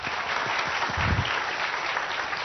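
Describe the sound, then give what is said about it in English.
An audience claps steadily for a couple of seconds to welcome the evening's guest of honour, a dense, fairly loud patter of many hands with no voices standing out. “Round of applause!”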